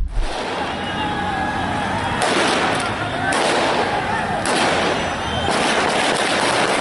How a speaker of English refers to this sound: And the Taliban did what they do best. They just opened fire into the crowd, according to Al Arabiya. Members of the extremist group opened fire on the crowd. At least 2 people dead, at least 10 people injured.